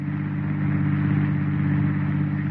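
car driving

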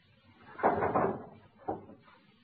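door being shut

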